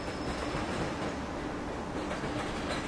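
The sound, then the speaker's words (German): A train rolls steadily along the rails through a tunnel in the Pyrenees toward a Spanish-French border station, a dense, continuous rumble with faint rhythmic clatter and a thin high whine, with no voices. “Ist man mit der Bahn unterwegs, taucht man via Tunnel durch die Pyrenäen hindurch und erreicht wieder im Tageslicht die Gleisanlagen eines der wichtigsten spanisch-französischen Grenzbahnhöfe des letzten Jahrhunderts.”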